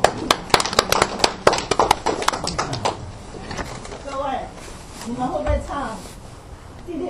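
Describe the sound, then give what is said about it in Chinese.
A scattered round of applause from a small crowd at a church service, sharp uneven claps for about three seconds, welcoming a woman coming up to sing a hymn, fading as a person starts speaking. “她最近受了圣灵的感动，她要上来为我们献诗啊，我们掌声欢迎她啊。”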